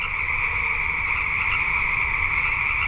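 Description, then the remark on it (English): A dense chorus of chorus frogs calls without pause at night from a wetland in spring, many overlapping trills merging into a steady, loud, shimmering drone, with a low rumble of background noise underneath and no voices. “Their home and garden overlook a wetland that in spring becomes an amphitheater for chorus frogs at night.”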